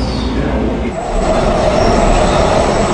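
A T Third line Muni Metro light rail train bound for Mission Bay and Chase Center rolls in, a loud steady rumble of wheels on track with a thin metallic squeal rising from the wheels as it arrives.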